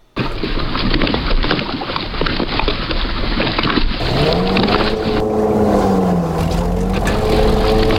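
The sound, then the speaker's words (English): Water splashes and slaps steadily against a boat hull in a continuous rushing wash, with a low engine drone rising and wavering under it in the second half. “Oh, I had a water lapping thing here. I don't know. I don't think it's going to be any good, though. Yeah, water laps boat.”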